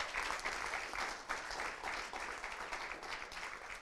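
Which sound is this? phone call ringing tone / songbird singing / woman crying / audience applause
audience applause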